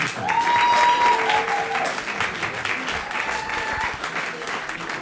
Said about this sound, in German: Ein kleiner Applaus